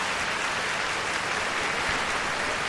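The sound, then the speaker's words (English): A burst of applause in a studio to welcome a guest, dense steady clapping from many hands that fills the whole moment at an even, sustained level with no voices over it. “She is a, oh yeah, let's give it a round of applause.”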